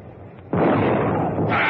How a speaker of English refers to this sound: Number 1 gun fired, sir. Reload, repeat. Captain, please stop you making my poor boat rock. She'll fall apart with your big cannon firing from the deck like this.